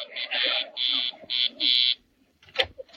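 A door buzzer rings in a rhythmic pattern of five loud, harsh, nasal bursts, a mix of short and longer buzzes, followed by a pause and a few brief, muffled sounds.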